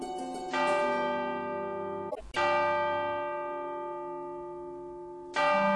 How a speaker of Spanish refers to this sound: Guiándonos por el sonido de campanas, nos trasladaremos hacia la iglesia catedral.